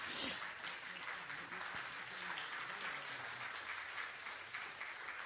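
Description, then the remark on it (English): Ladies in a church audience applaud steadily, a dense, even wash of many hands clapping that holds at one level for several seconds, with faint murmuring voices underneath. “Thank you for your applause, ladies.”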